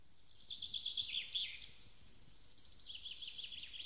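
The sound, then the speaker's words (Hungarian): Two great tits chirp on a beech branch in quick, high-pitched bursts: a busy run of notes, a brief pause, then a second softer sequence, fairly faint and with no voices over them. “Már éppen lecsukódott a szeme, mikor hallja, hogy két színege madár beszélget a feje fölött a bükkfaágon.”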